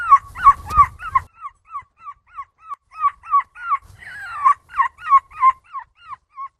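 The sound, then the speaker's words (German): A 9-year-old child imitates seagull calls at the European seagull-imitation championship in Belgium: a long, rhythmic run of shrill, yelping cries, each sliding in pitch, repeated quickly and loudly with brief gaps and a few rougher bursts. “Man muss sagen, es geht um die Europameisterschaft in Belgien, wo es darum geht, Möwen zu imitieren.”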